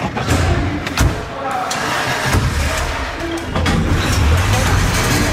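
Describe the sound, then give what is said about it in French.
Several sharp thuds of car doors shutting, spaced a second or so apart, as people get into the car to leave, over a steady loud rumble as an engine starts and idles, with some indistinct voices mixed in. “Montez dans la voiture, on y va.”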